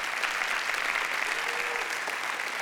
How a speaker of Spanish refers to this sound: Un aplauso a Dios, que Él se lo merece.